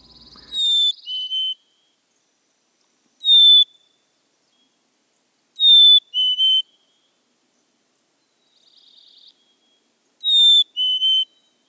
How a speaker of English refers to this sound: During late winter, as the small flocks start to break up, male chickadees start to give their clear, whistled Phoebe song, and it's even more prominent when the breeding males start to define their territory. Here's that song.